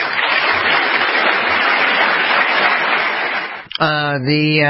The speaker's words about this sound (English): The applause at the National Defense University, respectful but not enthusiastic.